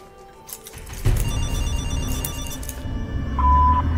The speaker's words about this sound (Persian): تا کی میخوای بی محلی کنی؟ زودتر اون گوشی لعنتی رو جواب بده.